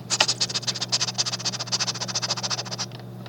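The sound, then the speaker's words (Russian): A person imitates a hedgehog with a quick, steady run of breathy, hissing snuffles, roughly ten puffs a second for about three seconds, over a faint low hum. “Ёжик.”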